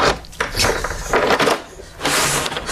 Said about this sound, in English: Hang on. Problem with this door. Oh, hang on. It's locked it again.